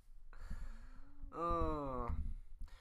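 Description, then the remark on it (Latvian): Heavy snoring: a rumbling inhale followed by a louder, throaty snore with a whistling, nasal tone, then trailing off. No one speaks. “Tas ir tāds tā kā fokus treniņš. Uz mums, nevis uz to krākšanu.”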